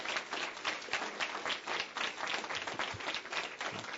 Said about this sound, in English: But we want to thank them this morning for what they've done, how they, part of the vision they had. And we'd like to honor them with just a hand of applause, just a thank you.